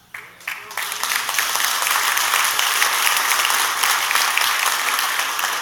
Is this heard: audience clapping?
yes